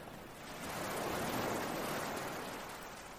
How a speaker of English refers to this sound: Sunshine floating on water. Feeling a small spray of warm water in the air around you. Freshness of water. Relaxing into the sunshine and into the sound of the water.